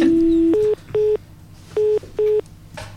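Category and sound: signal or alarm, telephone dialing tones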